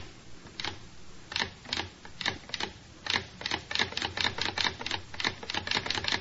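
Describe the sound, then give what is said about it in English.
A sewing machine clatters, its sharp mechanical clicks starting scattered and halting, then quickening into a steady, rapid run of stitching a single thread chain, with no voices. “You know how to make a single thread chain on a sewing machine.”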